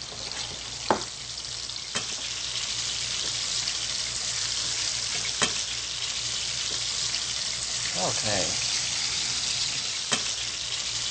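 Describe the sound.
A sandwich flavored with Maggi soy sauce sizzles steadily in a hot pan as it fries to golden brown, a constant crackling hiss punctuated by a few sharp clicks, with a single brief word spoken over it.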